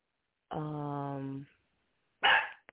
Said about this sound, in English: So we'll let Yoshi bark, but we'll be right back.